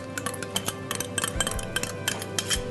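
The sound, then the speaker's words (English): Ice cubes clink and rattle against the sides of a pot while preparing a yogurt drink, in a quick, irregular series of bright, sharp taps, with no voices. “So here's the ice in my pot, and here's the yogurt.”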